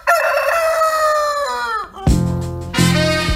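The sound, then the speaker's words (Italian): A rooster crows loudly, a long strained cock-a-doodle-doo that sags in pitch at the end, followed by two harsh, raspy squawks. “Che sfida pazzesca che si preannuncia all'orizzonte: Draghi e il pavone contro Salvini e il gallo.”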